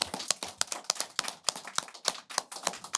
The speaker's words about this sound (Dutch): Nou, ontzettend goed gedaan, jongens. Een groot applaus voor de twee dames van ADOS.